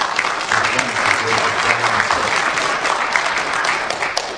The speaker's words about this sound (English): Can we give a big round of applause and thanks to our Archbishop for starting the talk?